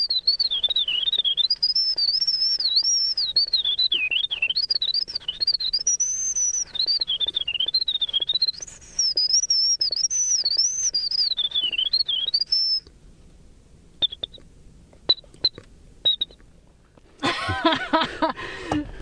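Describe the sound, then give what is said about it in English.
A man whistles a long, rapid, warbling imitation of a winter wren's song, a continuous tumbling stream of high trills lasting over ten seconds, followed by a few short chirps and a brief burst of noise. “The most complex song he whistles is that of the winter wren, which took him over 6 months to perfect.”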